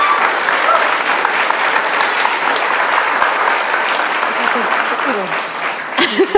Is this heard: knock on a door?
no